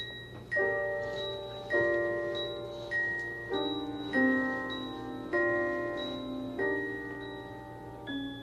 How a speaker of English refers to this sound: Must be time for the trolley. Is it? Yep, there's Daniel's clock.